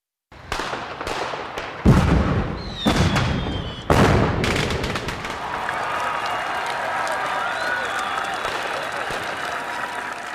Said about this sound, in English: Wow! Red, white, and blue fireworks are beautiful.